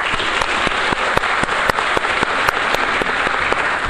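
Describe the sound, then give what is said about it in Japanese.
An audience applauds a lecturer at the end of his talk, a dense wash of many hands clapping at an even, sustained loudness with sharper individual claps popping out now and then. No one speaks over it. “今一度大きな拍手をお願いいたします。”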